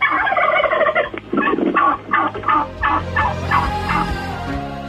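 A turkey gobbles loudly, a rapid, warbling run of throaty pulses that repeats across the few seconds with no voices present.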